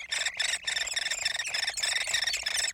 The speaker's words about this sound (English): That's a hairy woodpecker chick in its nest cavity deep within a dying tree.